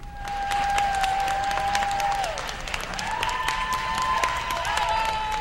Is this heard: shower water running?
no